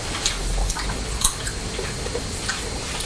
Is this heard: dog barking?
no